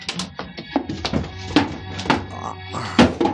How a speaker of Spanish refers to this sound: Otra puerta derribada.